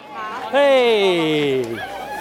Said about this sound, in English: We're in the small town of Port Fairy in southwest Victoria. It's about 3 hours from Melbourne. There's a big crowd in a church car park. Everyone's excited